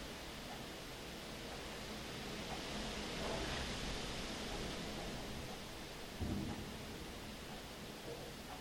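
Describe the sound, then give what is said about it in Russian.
A steady, dense hiss of rain fills the whole stretch, swelling slightly midway, with a brief low rumble of thunder toward the end. No voices. “У нас будет времени шторм-то идти.”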